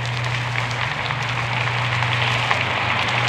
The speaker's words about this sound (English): And now he's receiving the applause from the members of the orchestra, the band, and the University String Orchestra he conducted.